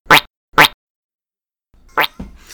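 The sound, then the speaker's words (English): A Twitch stream host notification sound effect: two quick, identical bright plopping bursts with a rising sweep, a short silence, then a similar burst that trails into a rougher, scratchy tail. No one speaks. “By the way, that's our host notification sound.”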